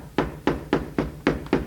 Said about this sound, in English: Well, here's the Giant's house. I'm gonna knock on the door.